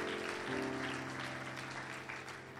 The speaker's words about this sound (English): Clap your hands one more time before you're seated tonight. Hallelujah.